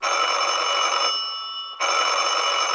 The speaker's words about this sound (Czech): To se rozdrnčel zvonek u dveří s výrazným nápisem Mudr Čeněk Dobešek. A znovu.